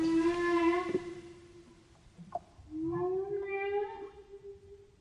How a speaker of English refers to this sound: This is from just outside here. This is the humpbacks. When I took this, I was totally alone in the fjord. It was only me and the whales.